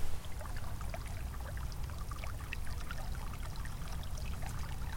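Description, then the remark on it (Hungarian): Steady burbling and trickling of hot spring water, at least 60 degrees, welling up from the ground near a country road, with many small bright splashes and bubbles over a low continuous rumble. No voices. “És arrébb jöttünk vagy 20 métert, és itt bugyog a földből a víz.”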